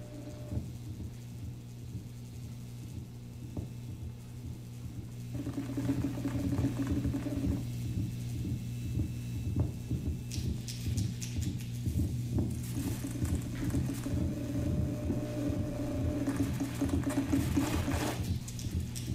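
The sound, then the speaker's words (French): Steady mechanical whirring and electrical hum from opened-up cassette players, giving only the machines' mechanical noise and interference rather than the recorded sound, with ticking, ratchet-like clicks and bursts of crackly interference hiss. It grows slightly louder partway through, and no one speaks. “des lecteurs cassettes, tout ça ouvert et uniquement pour avoir le bruit de leurs artefacts et pas l'origine de la source.”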